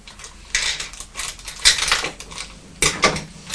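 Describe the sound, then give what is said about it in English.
Play coins, including thicker £1 coins, being handled, clinking and rattling against each other in a few scattered bursts, with a softer shuffling clatter in between and no talking. “£1 coins. Now they're a different colour again. These are thicker than the other coins, look.”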